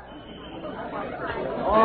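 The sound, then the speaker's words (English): A dense murmur of many overlapping voices from a large crowd gathered at a scene as police arrive, an indistinct crowd chatter that holds steady and swells slightly louder toward the end. “arrived on the scene, a large crowd had gathered.”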